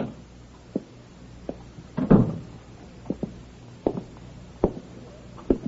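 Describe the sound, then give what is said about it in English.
An apartment door opens, with a scattering of sharp clicks and knocks and a louder rattling thud partway through as the latch and hinges move. No one speaks. “Suddenly, the apartment door opens.”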